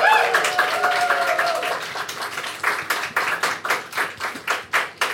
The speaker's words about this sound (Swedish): Vi kan ge dem en applåd för de är super, super härliga människor!